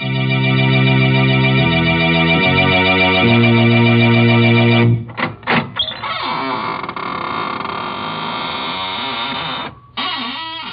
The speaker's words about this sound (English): Good evening, friends of the Inner Sanctum. This is …, your host at the squeaking door.